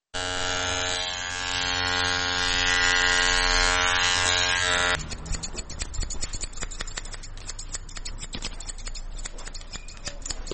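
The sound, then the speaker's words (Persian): Electric hair clippers buzz steadily, then give way to rapid, crisp snipping of scissors cutting schoolchildren's hair in a barbershop at Chaharrahi Salim Karwan, Kabul, Afghanistan, a busy run of metallic clicks with no one talking. “وای میگوید که قیچی موهای شاگردان مکاتب آنقدر عمیق صورت میگیرد که در بسیاری وقتها بدون پوشیدن کلاه چاره دیگری هم نمیداشته باشد.”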